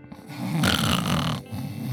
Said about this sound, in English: She was snoring. She was sleeping.